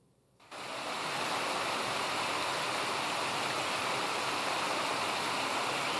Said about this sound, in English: Actually, one stream, but it flowed in different directions and different waterfalls that appeared along the way.